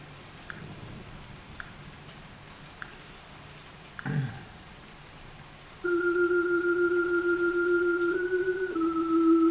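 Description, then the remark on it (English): Soft, steady rain patters in the background with occasional distinct drips, then a loud, sustained droning tone cuts in over it for the last few seconds. “Can you hear that pitter-patter of the rain in the background?”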